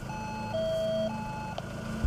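An electronic door intercom at a gate in Estonia rings with steady sustained tones that step down in pitch and back up again, over a low engine-like rumble, with a brief click near the end.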